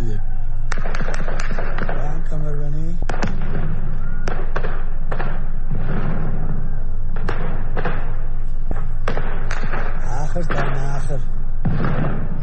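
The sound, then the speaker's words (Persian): Repeated gunshots and sharp explosive bangs crack out at irregular intervals, some in quick bursts, over a noisy crowd of shouting voices outdoors, heard on a Sunday night in Sanandaj during street protests against the Islamic Republic government. “یک شنبه شب همچنین در سنندج صدای انفجار و تیراندازی‌های پی در پی شنیده می‌شد.”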